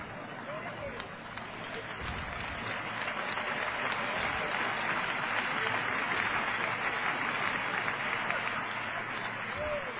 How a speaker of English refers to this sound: And those of you that are right in the humble beginning of my message tonight, thank you for those courtesy claps.